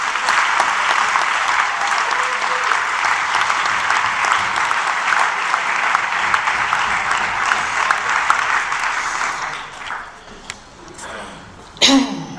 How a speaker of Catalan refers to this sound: I des d'aquí demano un aplaudiment per tot aquest gran equip de gent.